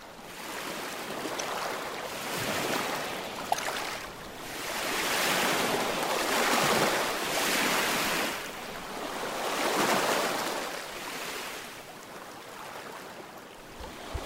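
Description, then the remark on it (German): Gentle ocean waves wash steadily onto a beach under a low sun, each broad hiss of surf swelling and receding in a slow, regular rhythm every few seconds, with no voices present. “Die Sonne steht schon tief. Ihr Licht ist sanft und glitzert auf den Wellen.”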